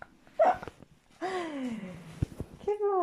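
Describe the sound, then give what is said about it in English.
A dog gives a long, falling whine, then starts another high whimper after a short pause, with a brief sharp yelp near the start. The sounds are moderately loud, with no talking. “Yeah, this is my dog.”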